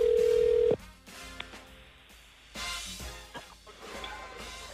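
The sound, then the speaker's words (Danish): A single steady ringing tone from an international phone call, placed by pressing an apparatus, sounds briefly at the start, then cuts off, leaving faint background noise and soft clatter as the line connects. “Okay, man hører, den ringer til udlandet.”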